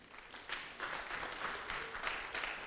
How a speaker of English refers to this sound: Is she not singing beautifully? Yeah. It's beautiful. I mean, it's a good place to clap.